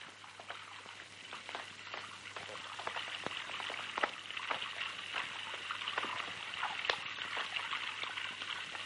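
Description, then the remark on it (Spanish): A bathtub tap in a bathroom drips water onto the face of a man hiding in the tub, a quick irregular patter of drops over a steady watery hiss, moderately loud and continuous throughout. “Este se esconde en la bañera y el grifo le gotea en la cara.”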